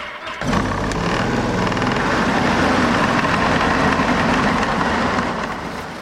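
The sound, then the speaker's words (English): A loud, steady mechanical roar of a drill boring through an Antarctic ice sheet toward the underlying bedrock starts abruptly and grinds on continuously, with a low rumbling hum underneath and no voices. “So, the drilling. So we are going to go through the ice sheet into the underlying bedrock.”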